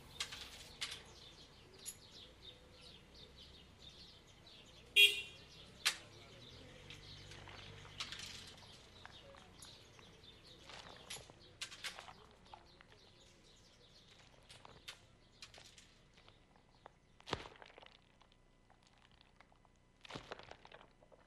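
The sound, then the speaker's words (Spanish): Quiet outdoor street ambience in the village of Lefkara, Cyprus, with birds chirping here and there, broken by scattered sharp clacks, rustles and a few louder knocks, with no one speaking. “Poblado de Lefkara.”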